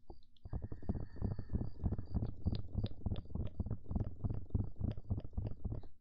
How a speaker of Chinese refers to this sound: 接下来我们做一个敲耳朵的声音。什么时候到锡纸？做完敲耳朵就是锡纸啦，宝宝。 突然觉得敲耳朵，就是锡纸的声音。